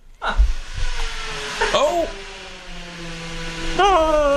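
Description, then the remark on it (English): A whining power drill, heard through an open door, runs continuously, its motor pitch dipping and rising in short swoops as it bites, sounding steady and moderately loud. “It's drilling of some sort, is I think.”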